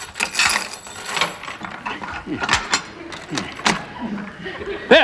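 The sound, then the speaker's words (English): A lock rattles and clicks as a key turns in the back door, followed by the clunk and creak of the back door being pulled open, with a sharp metallic click at the end. “Open the back door,”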